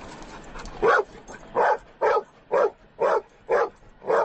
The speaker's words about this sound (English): This dog right here, he's a live search dog, which means he will search on rubble piles. He's looking for only people that are living. He will not alert on someone that's deceased. And when he does find somebody that's alive, he will bark repeatedly.